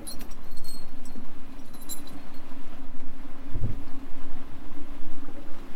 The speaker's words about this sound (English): Another interesting thing that we keep commenting on is something is knocking around on the outside of my boat. Hang on while I look out.